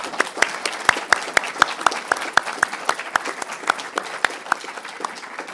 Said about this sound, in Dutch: Ik zeg applaus, toch?